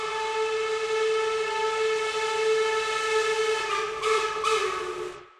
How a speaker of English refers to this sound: Besides the string quartet and the human voices, you hear train sounds, particularly train whistles.